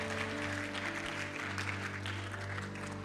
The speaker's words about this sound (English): And everybody says, could you join with heaven this morning in giving the biggest round of applause for those that say that they want to be filled up with Jesus?